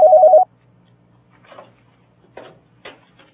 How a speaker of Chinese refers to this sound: 先这样，我这儿来电话。